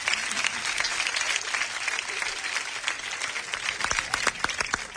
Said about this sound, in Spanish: Un aplauso también